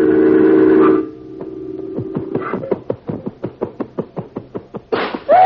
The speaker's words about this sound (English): The picture on the wall. He's knocked it down.